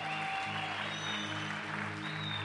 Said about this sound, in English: You are not clapping properly. It's like you're not enjoying that.